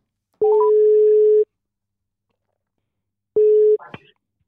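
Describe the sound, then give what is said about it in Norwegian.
A phone call to the caller's mother connecting: a short burst of dialing beeps, then a long steady ringback tone, a pause, and a second shorter tone cut off as the line picks up. “Da ringer jeg.”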